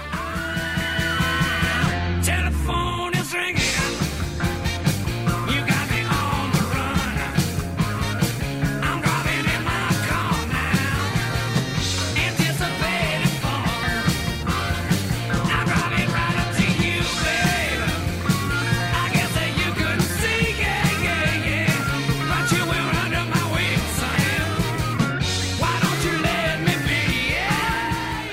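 A loud rock song plays straight through: driving electric guitars, a steady pounding beat and a walking bass line, with a brief stop-start break near the beginning before the full band rolls on.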